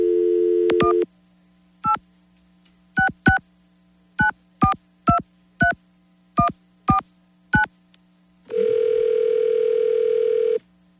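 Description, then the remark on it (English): A telephone dial tone hums briefly, then about a dozen quick keypad beeps are punched in as a hotline number is dialed, followed by a long steady ringing tone on the line. Clear, with no voices. “Okay, let's get on the phone right now. There's a phone number to call, and we have to keep our fingers crossed that we are within the 8,754 callers.”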